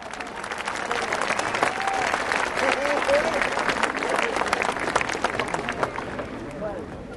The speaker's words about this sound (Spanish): Y el siguiente número lo vamos a recibir la comandante Hortensia, con un caluroso aplauso.